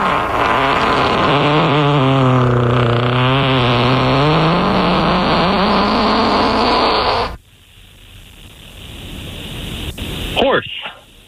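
human fart

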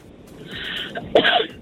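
sneeze

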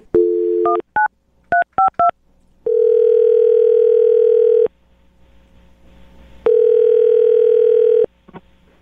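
telephone dialing and ringing

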